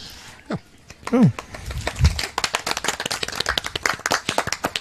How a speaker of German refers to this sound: Das ist, glaube ich, der schönste Applaus auf dem Podstock, weil der so schön gesittet an den Mikrofonen stattgefunden hat.